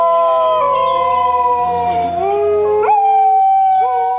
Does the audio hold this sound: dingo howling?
yes